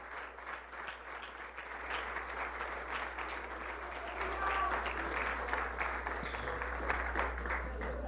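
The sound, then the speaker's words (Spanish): An audience at a church service applauds steadily for the people connected online, a dense wash of many hands clapping that grows louder partway through and holds strong to the end, with faint voices mixed in. “Un aplauso ahí con mucha gana.”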